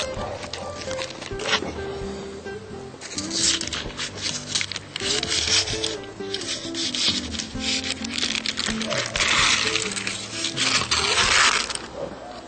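Scissors snip through the crinkly plastic packaging of a vegan stuffed ham roll, a series of sharp cutting and rustling bursts over several seconds, with a low steady hum in the background.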